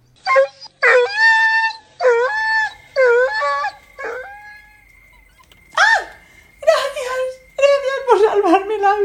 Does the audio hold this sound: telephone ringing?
no